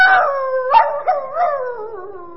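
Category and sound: animal, dog howling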